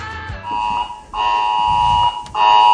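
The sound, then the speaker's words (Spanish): A mobile phone alert tone, a message from the radio station Voces de A Coruña about technical problems, sounds three times: loud, steady, buzzy electronic blasts at a fixed mid pitch, each lasting under a second, separated by short gaps, with no one talking. “Y entonces le suena, en el móvil le suena esto.”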